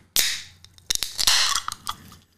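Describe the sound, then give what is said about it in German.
A chilled can of Levo power lemonade, peach and passion fruit flavour, cracks open with a sharp pop and a bright fizzing hiss, followed by a few small clicks and further bursts of carbonated hissing as it settles. “Ich habe sogar ein bisschen kalt gestellt. Ich hoffe, es ist auch noch ein bisschen kalt. Ja, das ist ja schön kalt. Ich mache es mal auf.”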